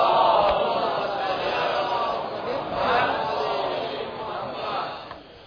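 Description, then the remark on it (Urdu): A large crowd recites salawat (blessings on Muhammad and the family of Muhammad) together in unison, a dense swell of many voices rising and falling in a steady recitation rhythm, loud and sustained throughout. “درود بھیجے گا محمد وعلی محمد.”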